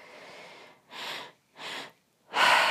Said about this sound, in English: Breathing all in and out of the mouth, deep breath into the belly, deep breath into the chest.